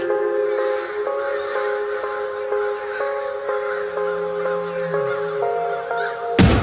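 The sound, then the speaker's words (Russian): A flock of crows caws over and over in a dense, overlapping chorus, harsh calls repeating in quick succession above a steady droning background, with no one speaking. “Каркала стая, как будто в насмешку над этим исходом сражений стандартным.”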